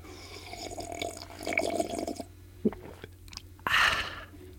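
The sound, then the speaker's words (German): Someone takes a sip of coffee: soft wet mouth and swallowing noises, a brief click, then a louder slurping burst near the end, with no talking. “Einen Schluck Kaffee zu mitnehmen.”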